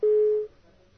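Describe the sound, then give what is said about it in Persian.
A single steady telephone busy tone beeps for about half a second, loud and clear, after a caller's line to a TV call-in programme drops, then cuts off into faint low background noise with no one talking. “خب این تلفنمون قطع شد.”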